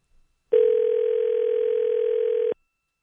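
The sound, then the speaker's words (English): A single steady telephone ringback tone of an unanswered call sounds for about two seconds, loud as if heard through a handset, then cuts off into silence. No voices are present. “Wouldn't it go to voicemail eventually?”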